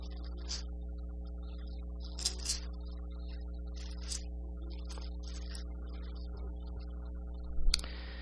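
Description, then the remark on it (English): Pages of a Bible being turned: several soft, papery rustles come at irregular intervals over a steady low hum, with a sharper crinkle near the end. The bottom corners of the pages are oily and slick from fingers. “If you could see my Bible, all the bottom corners are starting to get oil from my fingers on it from turning pages, and they don't want to turn now.”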